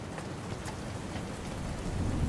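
Raindrops patter and click steadily against a window, a continuous wash of rain with small scattered taps on top and a faint low rumble underneath, no voices.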